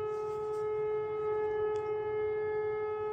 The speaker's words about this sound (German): Im Hintergrund heult eine Sirene, die die Feuerwehr alarmiert.